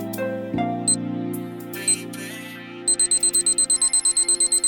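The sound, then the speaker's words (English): An alarm clock sound effect: a couple of isolated high beeps over a steady low tone, then a rapid, evenly spaced run of loud electronic beeps until the end. “The clock starts now.”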